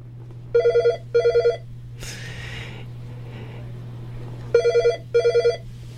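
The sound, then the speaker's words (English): A telephone rings at a radio station during its fund drive, in two paired bursts of warbling trills, repeated after a pause, with a sharp breathy gasp in between and a steady low hum underneath throughout. “I hear the phone ringing.”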